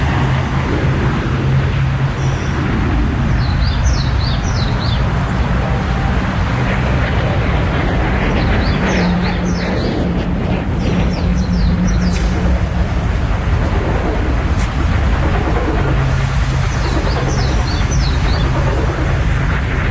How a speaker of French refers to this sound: C'est l'entraînement pour se poser sur porte-avions. Il décolle d'ici pour aller bombarder Irak et Afghanistan.